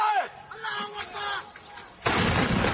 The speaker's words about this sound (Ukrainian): Але звук артилерійного вогню не може перекрити голосів, які дедалі гучніше звертають увагу на слабкі місця у новій стратегії Вашингтона щодо цього регіону.